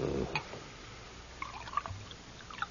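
A drink is poured into a glass, a quiet, uneven trickle of liquid with a few faint splashes and clinks, with no voices.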